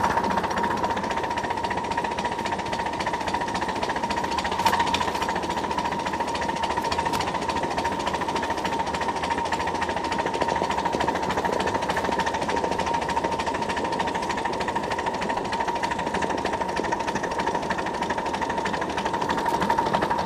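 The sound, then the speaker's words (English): A steam train runs along its tracks in a steady, unbroken clatter, with a sustained mid-pitched hum over fast rattling that holds an even loudness for the whole stretch, coming up on the station area to take on coal and check the water level. No one speaks. “We're gonna pull into the station because I gotta get some coal and check the water level.”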